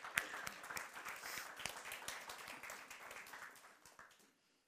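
A crowd applauds with dense, crackling hand claps that hold steady for about four seconds, then fade away into quiet.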